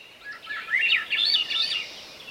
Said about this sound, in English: There's the flute-like song of a Swainson's thrush, a bird now wintering in Central and South America, maybe as far south as Bolivia.